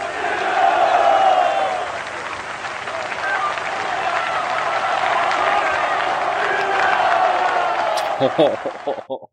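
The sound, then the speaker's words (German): A large crowd applauds and cheers steadily, a dense roar of clapping and shouting voices that stays loud throughout before cutting off abruptly near the end. It is the applause from Milosevic's 1989 speech at Amselfeld (Kosovo Field), cut into a recording. “Warte, ich schneide jetzt den Applaus von 1989 Amselfeld Milosevic-Rede rein.”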